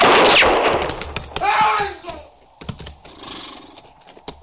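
One loud gunshot bursts out at the start as a man is shot and rings off, followed by a brief shout and a scatter of light clicks and clatter.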